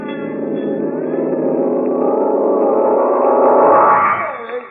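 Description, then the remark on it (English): A fire bell rings loudly and continuously, signalling a fire at a gold mine: a rapid, metallic clangor that holds steady for about four seconds before tapering off near the end. “That's the fire bell.”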